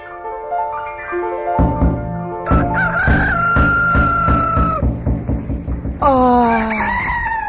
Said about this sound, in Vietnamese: Một đêm lạc lối đến Du Sơn, gà eo ốc nhắc giờ hạ giới.